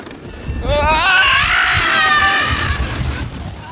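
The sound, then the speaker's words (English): A man lets out a long, loud scream that rises and wavers in pitch for a few seconds as a roller coaster at Coney Island goes over its 85-foot drop, over the rumbling, rushing background of the ride in motion. “It is so amazing because it just, you know, this screech, you know, from this, you know, serious newscaster kind of guy or whatever.”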